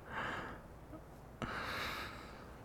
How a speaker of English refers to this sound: What was that? I couldn't hear you. Sound like a gasp. Or a...